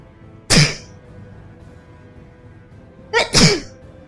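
Loud, close sneezes with no talking: one sharp sneeze, then after a few seconds of quiet, another sneeze burst that comes in two quick parts.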